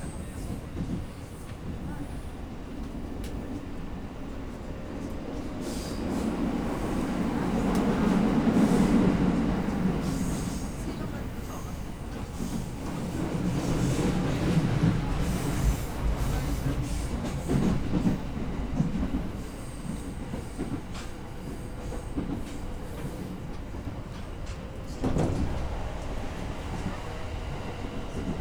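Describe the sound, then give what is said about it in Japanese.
A commuter train in Japan, approaching its final stop at Shinjuku and running late because of strong winds on the Utsunomiya Line, rolls steadily along the rails. A continuous low rumble swells louder in passing surges, with occasional rhythmic clacks and faint wheel squeal over the steady drone. “次はこの電車の終点新宿でございます。”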